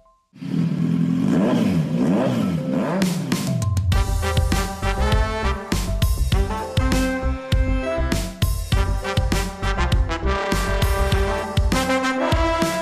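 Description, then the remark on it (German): A motorcycle engine revs up loudly for a few seconds, its pitch rising and falling, then a burst of driving music with drums takes over and continues. “Und mit diesem herrlichen Motorensound auf die Ohren starten wir in eine neue Folge Gasgeflüster.”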